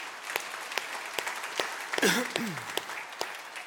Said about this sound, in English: I just want to give every single one of you a round of applause. Thank you.